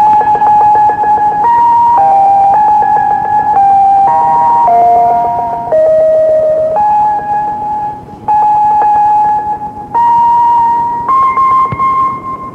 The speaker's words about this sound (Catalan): Les emissions creuaven les fronteres, des de Pals, en el mateix cor de Moscou. Lògicament allà els esperaven els soviètics que interferien la programació amb el zamming, un contrasenyal a més per evitar que els missatges arribassin en claretat.